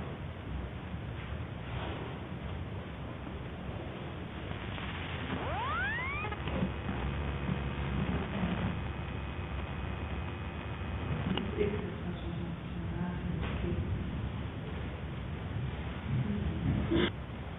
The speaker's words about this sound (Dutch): De wind gaat ook al tekeer.